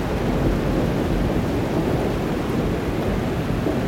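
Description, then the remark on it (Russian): A heavy downpour roars steadily and loudly on a deserted street, a dense, continuous wash of rain with a deep rumbling low end and no voices. “Он стоял совершенно неподвижно, ни на мгновение не отрывая взгляд от щедро поливаемой дождем безлюдной улицы.”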